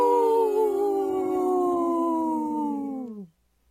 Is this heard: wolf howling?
yes